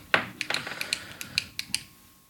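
Pens clicking about ten times in a quick, uneven run of sharp plastic snaps, with one stronger click at the start and the rest slightly softer, with no talking.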